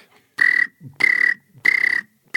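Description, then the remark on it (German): A person imitates a cricket's chirping with their voice: three loud, buzzy, trilling chirps repeated at an even pace, with short quiet gaps between them. “Kannst du mal die Grille machen?”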